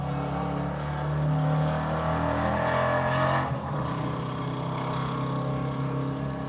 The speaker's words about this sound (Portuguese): Desculpa o carro passando aí.